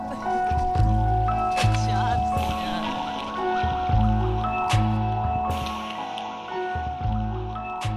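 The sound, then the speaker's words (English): A couple of sharp splashes as small stones thrown by a toddler and a parent on a beach drop into water, set among gently lapping, burbling water. The child and the adult speak briefly. “Get some rocks. Now let's throw them in the water.”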